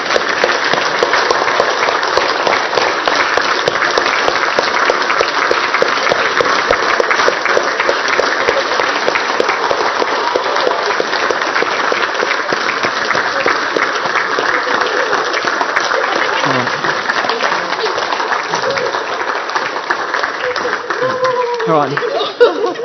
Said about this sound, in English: I want you to look at the ladies, and we're going to show our appreciation just by simply standing and giving our ladies a big clap. Go stand up, boys. They deserve it.